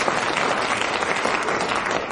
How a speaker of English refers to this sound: One round of applause for Barry Cryer, who won that point.